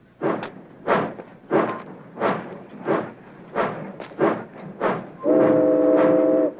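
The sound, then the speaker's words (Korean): A steam freight train, number 19, pulls away toward Portland with a steady series of loud, heavy chuffs, followed by a long, bright whistle blast near the end. No one speaks. “제크의 화물열차 19호는 포틀란드를 향해 다시 출발하고 넘버원은 자신이 다시 이 열차에 탄다고 예고합니다.”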